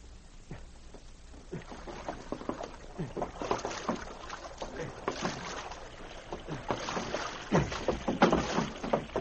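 A canoe paddle dips and pulls through water in repeated soft splashes and sloshes, moderately loud, with a steady watery wash underneath and no voices.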